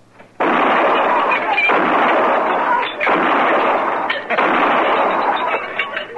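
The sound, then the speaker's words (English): A loud, sustained barrage of gunfire as a row of glasses lined up in a bar is shot out, with shattering glass, a dense roar of shots broken by a few brief pauses before it picks up again. “You show him anyway, Jess. Pick off some of them glasses all lined up so nice and pretty.”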